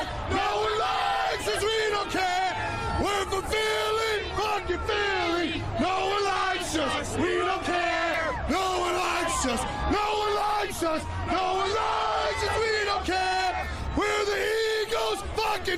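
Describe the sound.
A dense parade crowd in Philly yells, whoops and chants together in rowdy bursts, loud and continuous throughout, with a low rumble underneath and overlapping shouting voices.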